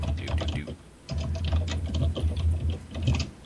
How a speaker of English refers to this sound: I'm hearing lots of typing. You hear nothing. I like how everybody else's keyboard is, like, you know, tapping on a log. Mine's just real tight and tiny.